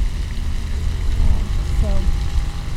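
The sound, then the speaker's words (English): A leaf blower used for yard work drones steadily throughout, a continuous low, rumbling engine noise with a broad hiss above it that holds at an even loudness without pausing. “So, and there's all that leaf blower noise over there.”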